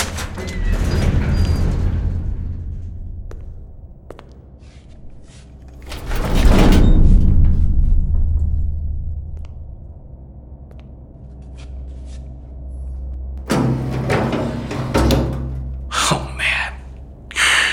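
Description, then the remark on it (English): A heavy door in an underground tunnel network between buildings, near a morgue, creaks and grinds open with a loud scraping rush, then after a lull it is dragged shut again with clunks and a thud, echoing. “Another door.”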